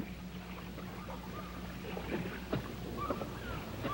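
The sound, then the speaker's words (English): A motor launch chugs along on the water, its engine a steady low drone with splashing and lapping around the hull, plus a few faint chirps and squeaks over the top. “On the launch.”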